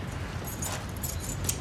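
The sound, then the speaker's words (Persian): A short jingle of keys changing hands, with several bright metallic clinks over about two seconds and no one speaking. “کلیدا.”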